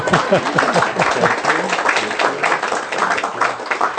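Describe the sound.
A crowd of wedding guests claps steadily and loudly for several seconds after the couple is pronounced husband and wife once again, a dense wash of hand claps with voices cheering and calling out underneath.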